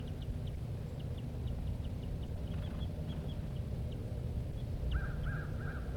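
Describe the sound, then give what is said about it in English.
Two birds, a male and a female, calling near their nest: a steady run of short, high chirps repeats about twice a second, then a few harsher, lower calls join near the end, all over a constant low rumble. “Both birds near the nest.”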